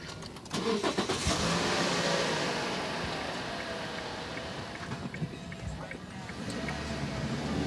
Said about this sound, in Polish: Obecnie przemieszczamy się ulicą Zamojską w kierunku Ronda i dalej ulicą Lwowską. Widzimy, jaki wzmożony ruch mamy na tej ulicy. Są to przeważnie samochody ciężarowe i dostawcze, które blokują ruch.